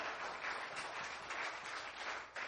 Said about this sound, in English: If you are, give the Lord a hand of praise.